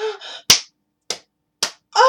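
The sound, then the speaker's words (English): Three sharp slaps of a hand on a bare breast land about half a second apart, each a crisp smack with a quick decay, framed by brief wordless vocal sounds at the start and end. “Oh, yes, I like when you slap my breast, Daddy.”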